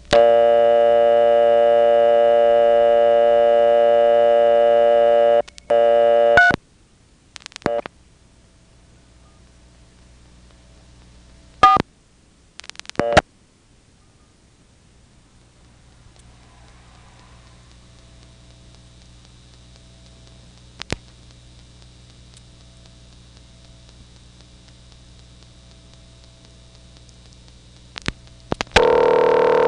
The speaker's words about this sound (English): The first two calls are to an answering machine of some sort that answers with a beep in the local Nantes office.